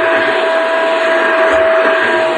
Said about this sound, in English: I'm not doing a show until he shuts it off. What an unprofessional slob. I'm unprofessional? This guy's got a vacuum cleaner going. I can't even hear myself think.